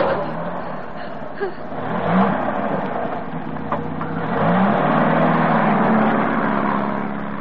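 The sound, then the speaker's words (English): A car engine, with the choke pulled right out, turns over and revs, its low drone sweeping upward in pitch twice before settling into a steady, loud rumble. “You've got the choke right out, you idiot. It's a strange car to me.”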